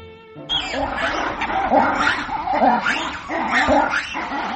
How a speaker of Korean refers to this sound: 각종 동물 소리로 시끌벅적한 이곳은 버지니아주 비엔나에 있는 로얼즈 주파리입니다. 이곳은 이름대로 동물원 주와 자동차를 타고 다니며 야생동물을 구경하는 사파리를 동시에 경험할 수 있는 곳인데요.